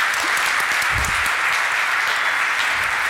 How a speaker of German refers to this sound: Also applaudiert gerne mal für die lieben Menschen, die das alles inhaltlich gemacht haben.